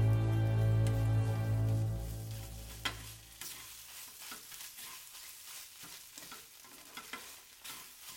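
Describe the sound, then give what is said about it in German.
Hot fat sizzles and crackles as Mutzenmandeln pastries fry in a hot pan, with a steady low hum at first that drops away, leaving a softer hiss dotted with sharp pops. “das überflüssige Fett rann aus den Mutzenmandeln heraus und von ihnen ab, und durch die Löcher des Schaumlöffels hindurch wieder zurück in die heiße Pfanne.”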